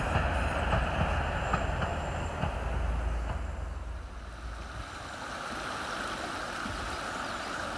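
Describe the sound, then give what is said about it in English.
A train rumbles past on a railway line running beside the River Worth between Haworth and Oxenhope, a steady heavy clatter that fades after a few seconds and leaves a softer rushing sound of the river in the background. “Along with the river itself, the railway line is a constant reminder of where we are on our right hand side.”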